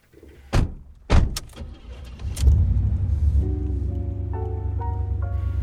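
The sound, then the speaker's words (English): Two sharp car-door thuds and a few clicks, then an engine turns over into a steady low rumble with a rising whine as the car pulls away for the drive home, driven faster than usual. “We spent the first few minutes of the drive home sitting in stunned silence, Ed driving faster than he normally does.”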